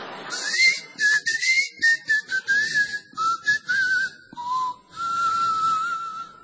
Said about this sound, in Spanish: qué modesta maravilla su silbar frente al micrófono y que no suene como un efecto de viento. ¿Cómo que no?